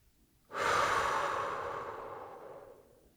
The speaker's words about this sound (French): Puis une 3e fois. On inspire par le nez en gonflant notre ventre. L'air rentre dans ton ventre et ressort par ta bouche.